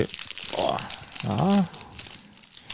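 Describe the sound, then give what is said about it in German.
A crinkly snack bag rustles and crackles as it is pulled open, with a couple of short voiced sounds breaking in partway through. “Wollen wir sie mal aufmachen? Willst du aufmachen?”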